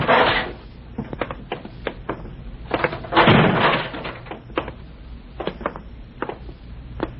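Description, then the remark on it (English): A heavy fire door in a basement opens with a scrape and a low rumbling creak, surrounded by a scatter of sharp clicks and knocks from the latch and handle. “In here. Through this fire door.”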